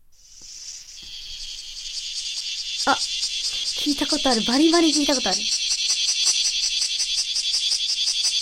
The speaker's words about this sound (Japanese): はい、こちらはクマゼミでした。クマゼミはですね、うん、7月下旬から8月の上旬、うん、午前中に鳴くと言われております。